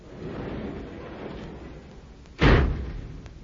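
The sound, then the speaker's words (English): A steady low rumble and rattle of a roll-up garage door coming down after a car is put away in the garage, ending in a loud metallic slam that rings out and fades. No voices. “And as I put the car away in the garage and closed the roll-up door”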